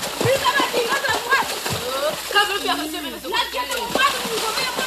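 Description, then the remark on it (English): Musicians' hands smack a water surface, playing the water itself as a water drum, in irregular, splashy, booming strikes while voices talk or chant loudly over the top, and the wet slaps cut through every second or so. “Here, the musicians are playing the water itself.”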